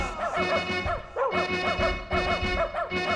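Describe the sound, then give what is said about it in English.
A dog barks repeatedly in quick, lively bursts over an upbeat musical jingle introducing a "News for Dogs" segment, the barks loud and woven into the rhythm of the music, with no one speaking. “And now it's time for news for dogs.”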